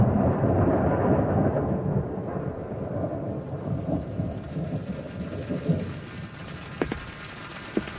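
A long, heavy roll of thunder rumbles low and steady, with the hiss of rain beginning underneath and a few sharp drips or clicks near the end. No voices.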